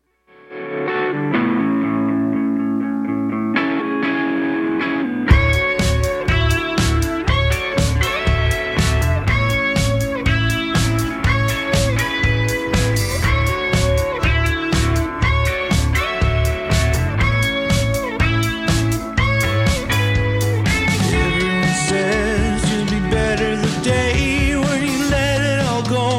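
A rock song plays loud on CFRC radio, opening with a few seconds of sustained, effects-laden guitar before driving drums and distorted guitars kick in with a steady, pounding beat.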